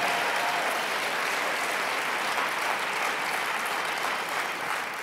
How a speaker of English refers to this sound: Let's give all the presenters a tremendous round of applause who've come up and created value.